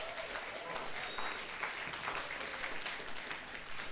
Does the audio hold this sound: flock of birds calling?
no